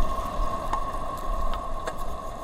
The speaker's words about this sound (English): We hoped to be able to record the crab, and the crab made almost no sound, and we couldn't hear it. But we could hear the wind whistling over the top of the crab flute, this wind instrument that the crab has made.